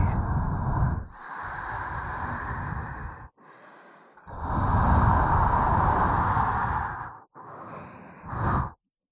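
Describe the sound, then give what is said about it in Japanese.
Soft, breathy exhales blown into the microphone onto a wet ear, a series of about five slow breaths with brief pauses between, airy and hissing, with no talking. “濡れたお耳に吐息。”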